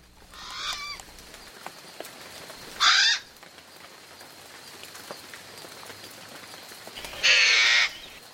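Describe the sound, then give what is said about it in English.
Three loud, harsh cawing calls from a Hawaiian crow (alala), spaced a few seconds apart over quiet background, the later two strong, the first fainter. “The Alala.”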